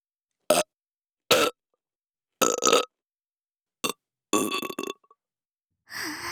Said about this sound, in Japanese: おっきいの出していい？結構やばいかも。ゲップしながらいっぱいしこってあげるからね。いくよ、せーの。